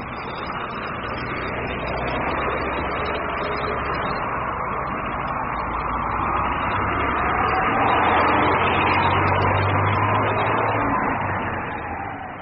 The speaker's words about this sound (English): Hurry up, that's our bus.